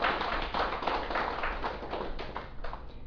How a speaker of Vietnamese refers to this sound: Xin quý vị vỗ cho tràng vỗ tay.